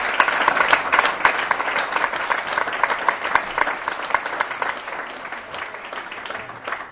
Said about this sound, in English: They need a round of applause.